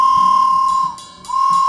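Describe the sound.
A loud, steady whistled tone imitating a train whistle to open a song, held high and clear, briefly dipping and softening midway before swelling back to full strength. No one speaks.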